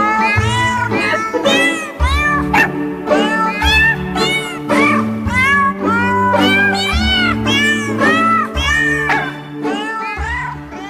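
Cats meow a melody in sequence, their pitched calls stitched into the Happy Birthday tune over a steady bass and backing accompaniment, loud and continuous with no talking.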